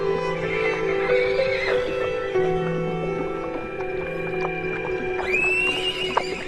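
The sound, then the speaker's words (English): A horse neighs and whinnies in drawn-out, wavering calls, with a sharper rising whinny near the end, fairly loud with no talking. “told us that if we held the horses, not allowing them to rush, there was enough water in a hole for us and them.”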